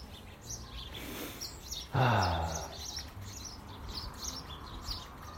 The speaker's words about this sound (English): but to sit and look across it and watch my fountain and a frozen pond, and the sun going down, and the wee birdies all chirping away, mad.